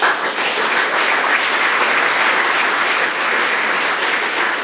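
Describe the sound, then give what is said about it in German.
Sustained audience applause after a submission is presented, a dense, steady wash of many hands clapping at a loud, even level for the full few seconds, with no voices standing out. “Entschuldigung, ich wollte natürlich nicht den Applaus klauen.”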